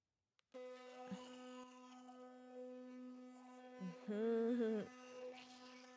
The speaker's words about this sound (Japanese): この電動歯ブラシを考えた人、天才だよね。磨くの超楽になったし。ブラシでこするの面倒だったんだよな。